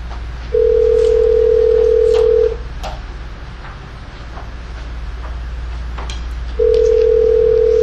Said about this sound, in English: They don't have a direct line here, so I have to get the operator to make a call for us.